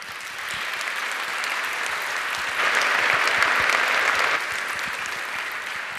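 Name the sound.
audience applause welcoming speakers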